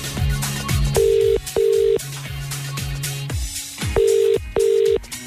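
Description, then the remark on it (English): A telephone ringback tone purrs in two pairs of steady double rings, clear, with a pause between pairs, as a phone call is made, over a busy background of repeated descending musical notes. “First, though, I need to make a quick phone call.”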